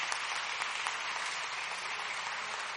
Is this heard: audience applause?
yes